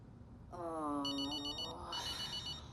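A telephone rings with a call from a discount hotel, a sustained electronic trill, a warbling tone that rises in pitch and shifts pattern midway, fairly loud over a low steady background hum, with no one speaking.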